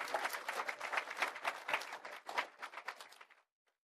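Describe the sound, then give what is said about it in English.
A crowd applauds people as they come up to the front, with dense, overlapping hand claps that keep a steady, lively texture for about three seconds before tapering off into silence. “Please give them a hand as they come up.”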